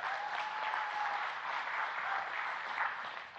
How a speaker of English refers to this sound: I want to welcome the students that are with us from the Chicago area. We're glad to have you guys with us. You can clap for them. That's cool.